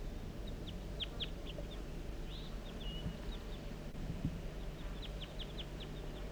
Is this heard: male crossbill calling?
yes